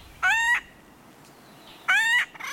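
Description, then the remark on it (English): Acorn woodpecker calls: two harsh, nasal, rising squawks with a rich buzzy tone, separated by a pause of over a second, loud against a quiet background with no talking. “Acorn woodpeckers are extremely social.”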